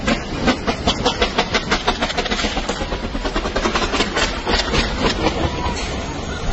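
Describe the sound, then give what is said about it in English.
Burning rocket propellant sputters and crackles in a loud, steady roar, broken by rapid irregular pops and bursts throughout, with a harsh hiss on top and no voices. “Watch it again, and you can kind of hear it spattering out. Definitely seems like propellant going out.”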